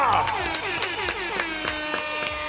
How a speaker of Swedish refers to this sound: Vi kör som vanligt. En applåd och tuta på det!